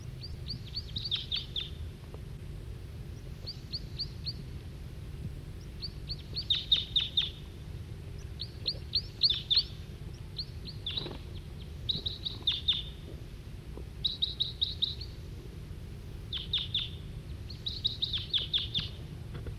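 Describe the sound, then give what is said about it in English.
Repeated bursts of high, rapid wild bird chirps and short song phrases, with a male giving song and others giving calls, recur every second or two, fairly clear against a steady low rumble of background noise, with no talking. “Now both 40 and 5-7 on the side giving calls. Still pointing at the male who's giving song.”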